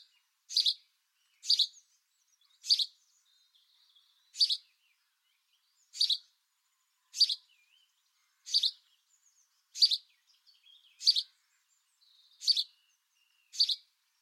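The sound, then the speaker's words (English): A male house sparrow sings to show off to a female, a plain series of about eleven sharp, high chirps, each one short and spaced roughly a second apart in a steady, repetitive rhythm, with no other sounds. “So that is the main sound that you hear from a male house sparrow singing to show off to the female that this is my edge of the gutter that I'm holding territory on near my little nest hole that I'd like you to raise our youngsters in.”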